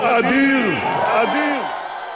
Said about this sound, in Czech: Rekao je svojim pristalicama u štabu Likuda u Tel Avivu jutros u 2 sata po lokalnom vremenu Benjamin Netanjahu, dok su njegove pristalice klicale Bibi, kralj Izraela.